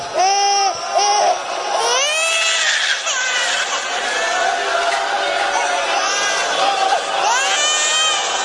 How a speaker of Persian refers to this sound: این بچه شیر خورده، اینجوری صدا گریهش در میاد.